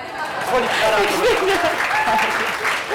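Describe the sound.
Steady applause from an audience fills the whole stretch, dense clapping with a few voices and cheers mixed in, moderately loud.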